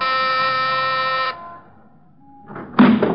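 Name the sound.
doorbell ringing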